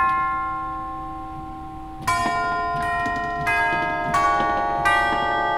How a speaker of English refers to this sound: We got the chimes. They are outside the chamber, and very often they are very positive in sound. They're quite loud. In fact, they can be very loud. But I'm going to do the chimes here.